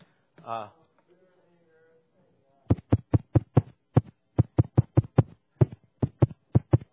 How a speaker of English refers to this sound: That was my heart beating. It's a little strange. So, that was a rhythm.